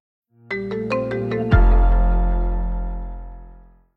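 A short musical bumper: five quick, bright plucked notes in a steady run, then a loud, deep chord hit that rings out and slowly fades. No voices are heard.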